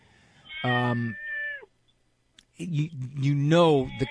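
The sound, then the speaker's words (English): A cat meows twice, fairly loud: a long, tonal meow, a brief pause of quiet, then a second wavering, rising-and-falling meow. “I'm hearing your cat.”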